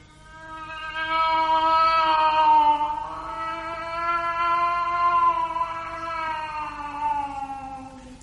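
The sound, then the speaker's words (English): A cat lets out one long, drawn-out wailing cry lasting several seconds, its pitch wavering slowly up and down. It is fairly loud, with no talking. “It's only the cat.”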